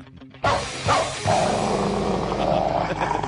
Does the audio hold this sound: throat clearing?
no